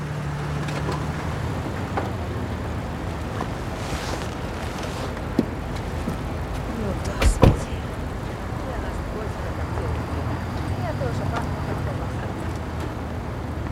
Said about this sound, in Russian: Она смотрит вниз, видит, как подъезжает внедорожник.